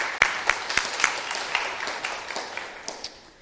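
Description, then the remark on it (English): A group claps together in a steady, loose rhythm, with a few sharp accented claps standing out early before the applause thins and fades over a few seconds. They are applauding a 22-year anniversary. “You can clap.”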